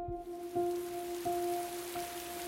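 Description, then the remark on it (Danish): Steady, heavy rain pours down in a dense, continuous hiss, with a low droning tone swelling beneath it every second or so. “Regnen siler ned, da tre mænd iført grågule joggingdragter, huer og snavsede hvide sneakers træder ind på værtshuset.”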